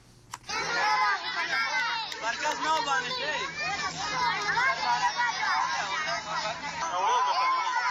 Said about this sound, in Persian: شما سر صدای کودکان را در یک مراسم عروسی میشنوید. در کنار بزرگان بیش از 100 کودک نیز در آن اشتراک ورزیده است. میزبان محفل عروسی کودکان را در گوشه ای از محفل جمع کرده و تا هنوز برایشان غذا توزیع نشده است.